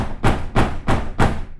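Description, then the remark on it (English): A woman bangs her fist four times on a dusty plain door in a steady rhythm, each a loud, booming thud with a short rumbling tail, no voices. “She said a prayer, made a fist, and banged on it.”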